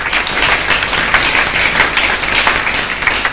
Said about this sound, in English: That's simple enough. Let's clap for him.